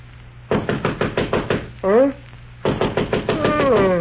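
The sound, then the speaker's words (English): Sharp, steady knocking on a bedroom door by Mr. Humphrey, about seven raps, then a short pause with a brief voice before a second, faster round of knocking that a voice briefly overlaps. “Humphrey knocked on my bedroom door.”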